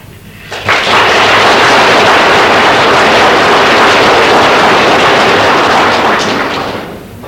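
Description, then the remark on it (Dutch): An audience breaks into loud, sustained applause for a speaker, a dense crackling wash of many hands clapping that swells quickly, holds steady for several seconds, then begins to thin out. No one speaks over it. “Uw applaus doet mij goed, ik onderschrijf dat gaarne.”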